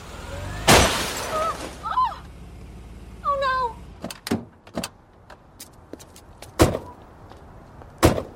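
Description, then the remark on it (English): A loud, sudden crash of one car striking another, followed by brief warbling high tones and a scattered series of sharp clinks and cracks like glass breaking and falling. “just hit my car.”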